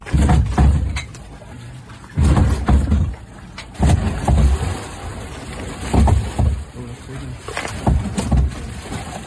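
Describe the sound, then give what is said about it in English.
Repeated heavy thuds against a boat hull, roughly every one to two seconds, deep and resonant, with water sloshing and creaking between impacts; killer whales ramming the vessel from below. “In this recording, we can hear the animals repeatedly hitting a boat.”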